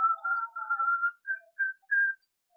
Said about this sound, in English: After a while, I heard him whistle.